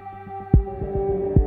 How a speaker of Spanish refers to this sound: Se le acelera el corazón, resopla y piensa: no me da la vida.